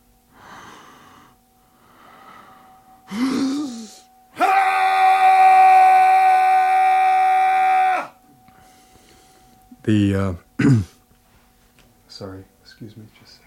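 An intense male primal scream of the air, male, primal, bardo category: one loud, steady-pitched cry held for several seconds, preceded by breathy grunts and heavy breathing and followed by short, sharp vocal bursts.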